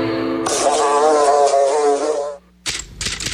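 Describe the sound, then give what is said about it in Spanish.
A loud fly buzz drones steadily for about two seconds, cuts off briefly, then returns in a shorter, rougher burst. No one speaks. “Identifica el zumbido de El Ojo de la Mosca.”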